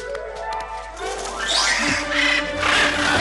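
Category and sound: bird, bird calling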